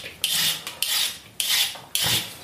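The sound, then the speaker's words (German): Carrots being peeled: four steady rasping scrapes in an even rhythm, each a bright, hissy stroke with short pauses between, with no voices. “Möhren mal die Schale ab.”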